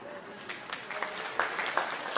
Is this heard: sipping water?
no